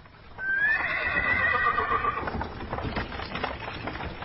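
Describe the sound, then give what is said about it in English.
A horse gives a loud, wavering whinny lasting under two seconds, then a horse-drawn wagon with the family's dog Jack under it sets off to a steady clip-clop of hooves and faint rattling, with no voices. “Their dog Jack went under the wagon, and they drove away.”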